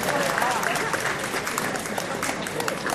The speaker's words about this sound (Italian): Ecco, un applauso, adesso si sta avvicinando il professor Sgarbi.